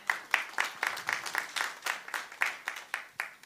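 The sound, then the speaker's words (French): A crowd at a missionary congress worship service claps for the Lord together in a steady, rhythmic beat, about four claps per second, moderately loud, with no voices over it. “Demos un aplauso al Señor. Applaudissons le Seigneur.”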